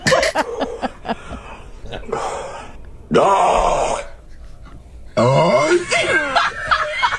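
A person strains and groans in short bursts, pushing out guttural, croaking throat sounds like forced burps, loud, with brief pauses between efforts.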